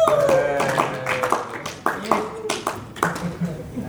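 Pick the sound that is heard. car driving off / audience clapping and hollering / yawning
audience clapping and hollering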